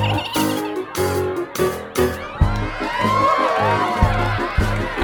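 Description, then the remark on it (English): A crowd cheers and whoops loudly over a steady, thumping beat, with many high voices rising and sliding in excited shouts that build toward the end. “The crowd really loved it.”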